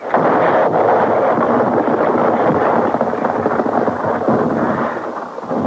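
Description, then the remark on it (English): A big explosion as the professor's machine is blown to smithereens, heard as a loud, sustained roaring rumble that fills several seconds with little change in intensity before easing slightly at the end. No voices. “There's a good 5 feet left before she blows.”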